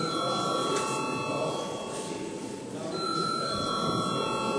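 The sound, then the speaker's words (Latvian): A steady electric voting bell in a parliamentary session rings continuously for several seconds before a vote, a loud, buzzy metallic ringing that holds without pause. “Balsosim par to lūdzu zvanu.”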